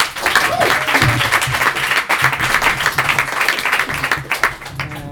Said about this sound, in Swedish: En stor applåd